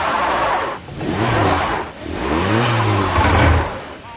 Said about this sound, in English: Gun it. You're digging yourself in. Just tap the gas, lightly. All due respect, I have been driving in snow my whole life. You mind stepping back? Well, you have to rock it out.